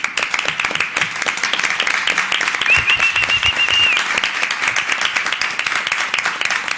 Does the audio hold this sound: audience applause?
yes